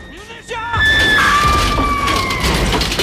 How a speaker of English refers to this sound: Gordon struggles to control the bike as it plummets down and crashes into the Spider's cockpit platform, knocking Munisha over the edge.